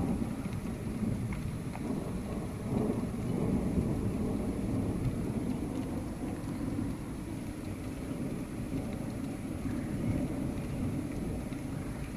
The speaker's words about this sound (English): The rain slowed down almost enough to go outside.